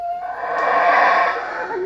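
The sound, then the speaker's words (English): A loud, continuous roaring chorus of howler monkeys in a tropical forest in Belize fills the air, a rough, breathy drone that swells slightly in the middle and holds steady without pause, with no voices speaking. “Those are howler monkeys in a tropical forest in Belize.”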